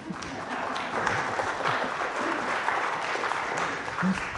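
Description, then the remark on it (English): A church audience breaks into steady, dense applause for a man who was given the pulpit, many hands clapping at once in a continuous wash of sound that holds at an even level throughout, with a few faint voices mixed in. “Please, could you help me and clap for him?”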